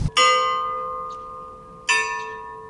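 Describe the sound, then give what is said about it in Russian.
A clock tower bell at a spiritual complex in a botanical garden strikes twice, a couple of seconds apart, each deep resonant chime ringing out with a long shimmering decay and overlapping tones. No voices. “Гуляя возле него, мы наблюдаем эти часы.”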